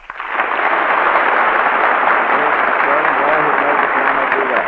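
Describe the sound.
A large audience claps steadily and loudly to select the winners of a contest, sustained for several seconds after a quick swell at the start, with faint crowd voices mixed into the dense applause.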